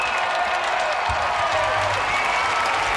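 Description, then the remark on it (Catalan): A large outdoor crowd in a plaza at Montserrat applauds and cheers continuously as the Pope appears on a balcony and greets them, a dense, steady roar of clapping and voices at a loud, even level throughout. “Saluda a la gent, aplaudiments, s'aboca al balcó, saluda els que estan just a sota del balcó, té uns micròfons preparats per tal d'adreçar unes paraules a la gent, cridòria de tots els fidels que han estat seguint aquesta cerimònia des de les places.”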